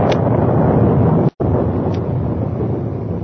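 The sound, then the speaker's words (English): Rain falls at about 11 o'clock at night, a steady, dense hiss filling the whole stretch with an even roar, broken by one brief silent gap partway through. No voices are heard. “It is about 11 o'clock at night and raining as we begin our story.”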